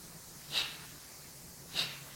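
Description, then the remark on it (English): Two sharp, forceful exhalations puff out about a second apart, breathy, in a rhythmic breathing exercise with the stomach contracted on each exhale, with a faint low hum underneath and no talking. “One second, one shot. That means if you do 10 minutes, it's 600 shots.”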